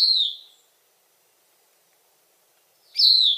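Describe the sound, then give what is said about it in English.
A Bicknell's thrush sings at dawn: two clear, high, fluting phrases, each sliding slightly downward, separated by a long pause of silence. The song is fairly loud, with no voices or background noise. “Corduroy brown above and pale below, with messy spots on its breast, the thrush isn't really known for its good looks. It's known for scarcity and promiscuity.”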